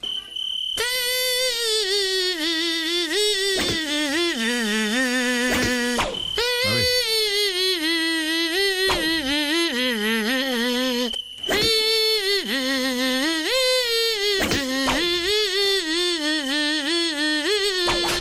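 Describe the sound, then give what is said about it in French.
A thin, whining mosquito-like buzz in a studio slides up and down to trace a bouncy summer-hit pop tune, loud, running almost continuously with only a couple of brief breaks and no voices. “Retour des moustiques, Bertrand, on en a un qui se balade là en ce moment dans le studio, vous trouvez sa chanson”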